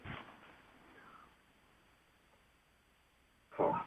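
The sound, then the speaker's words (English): A caller's pet dog in Virginia Beach barks twice during a phone call-in, a short muffled bark at the start and a louder, sharper one a few seconds later, heard through a thin, phone-like line with quiet between them. “My doggie's barking again, so.”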